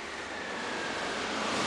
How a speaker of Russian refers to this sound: Однако ветер все усиливался, и вскоре разыгрался страшный шторм.